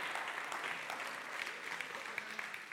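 A crowd applauds steadily, dense overlapping claps forming a continuous bright wash that holds at an even level for the whole stretch, with no voices standing out.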